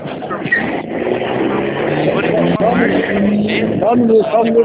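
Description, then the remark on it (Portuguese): A car rumbles past, its engine noise steady and fairly loud throughout, with people's voices talking over the traffic sound. “Só um minuto, tá passando o carro aqui.”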